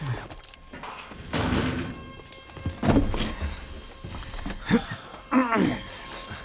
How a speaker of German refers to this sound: Und nun schließt die Tür.